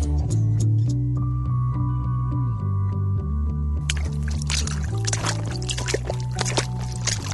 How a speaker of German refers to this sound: Moment mal, wer hat das Wasser ins Studio gelassen? Es ist ja hier so nass auf dem Boden. Stimmt, meine Füße sind auch schon ganz nass.